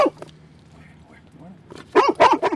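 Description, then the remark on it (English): A Labrador Retriever, a trained arson dog, barks: one short bark at the start, then a quick, loud run of three or four barks near the end, with a low hum in between. “The friendly Labrador Retriever is an arson dog.”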